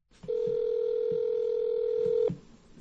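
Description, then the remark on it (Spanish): A steady telephone tone rings out for about two seconds, a single sustained mid-pitched beep with a few faint soft thumps underneath, then cuts off abruptly, as citizens in the United States are phoned one by one from the census list. “Otro método es llamar por teléfono a los ciudadanos.”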